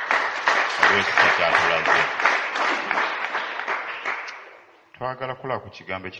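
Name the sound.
audience clapping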